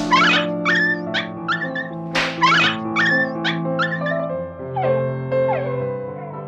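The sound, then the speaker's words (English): A dog, Patrash, whimpers in pain as his master whips him and hits him with sticks, letting out a run of short, high, wavering cries one after another, fairly loud over a steady low droning background. “He would whip the poor dog and hit him with sticks as well.”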